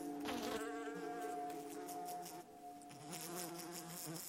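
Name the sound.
houseflies buzzing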